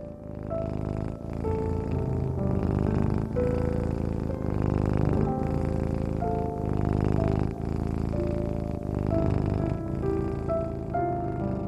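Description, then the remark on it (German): A cat purrs steadily for the whole stretch, a continuous low rumble mixed with soft, sustained tones that shift gently in pitch. “die kleine Zauberkatze, kommt jetzt zu dir und rollt sich auf deinem Bauch zusammen. Sie schnurrt.”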